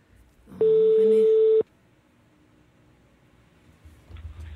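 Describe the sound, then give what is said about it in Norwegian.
A single loud, steady ringback tone sounds for about a second on an outgoing phone call, then cuts off abruptly, leaving quiet line noise and faint rustling. “Nu ringer vi op til endnu en, der har en efterlysning.”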